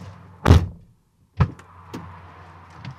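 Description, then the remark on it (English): Two heavy car doors thud shut about a second apart, followed by softer clicks and rustling as two people climb back into their car and settle into their seats. “climb back in their car, which is pointed away from Larry's, just in case they need to make a quick getaway”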